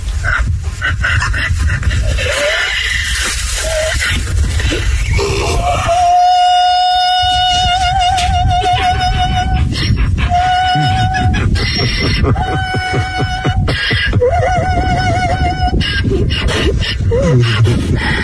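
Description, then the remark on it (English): A female donkey, called Harriet the Opera Donkey, brays as she greets a man walking past, in a run of loud, high-pitched, strained notes, several drawn-out tonal calls broken by short wheezy gaps, over a rough, noisy background. “And the reason being is the way she greets a guy who walks past her, she's hitting some high notes, and that's why they're calling her Harriet the Opera Donkey.”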